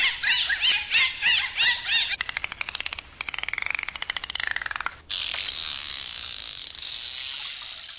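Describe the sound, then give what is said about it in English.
A dolphin makes a run of high, looping whistles, then rapid rattling click trains that buzz like a ratchet, ending in a long wavering whistle over a hissy background. No one speaks. “They think using a language like dolphin talk may be the answer.”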